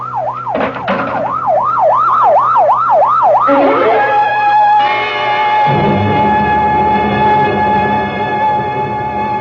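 A loud ambulance siren wails in rapid rising-and-falling sweeps, then shifts into a steadier, sustained tone as engine rumble builds beneath it, sounding like it is approaching.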